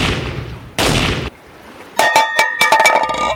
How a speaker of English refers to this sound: Next, I have to open the can of herring. But I don't have a can opener, so I'm going to have to use my pistol to open it.